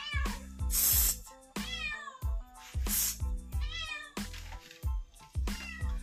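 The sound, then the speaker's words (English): A cat meows insistently, about five drawn-out, whiny calls in quick succession, loud, with brief pauses between them and no talking. “Oh, this cat is gone. Finally.”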